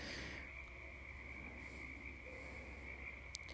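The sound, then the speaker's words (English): A steady, unbroken chorus of frogs trills at a constant high pitch, faint over a low background hiss, with no voices. “And I just thought it was fitting to do this meditation with the sound of the frogs in the background.”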